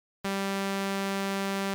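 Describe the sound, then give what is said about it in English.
A bright, buzzy synthesizer sawtooth tone cuts in abruptly after a brief silence and holds one steady pitch at constant loudness, rich in overtones, with no voices. “This is saw.”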